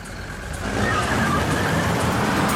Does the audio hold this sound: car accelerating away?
yes